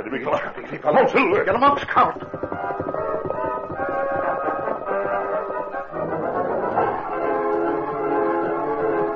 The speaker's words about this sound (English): Lone Ranger and Tonto had camped in the nearby hills and heard the sounds of the train climbing Backbreak Hill.